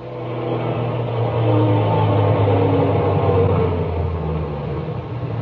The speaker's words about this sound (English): Well, you're in luck. Here comes the garbage truck back from his run. I'll just stop him.